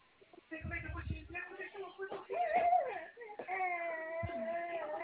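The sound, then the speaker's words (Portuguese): A baby cries in sustained, rising and falling wails that fill nearly the whole stretch, fairly loud, with a brief low rumble of handling noise near the start. “Olha o neném aí, ó. Tá vazando lá.”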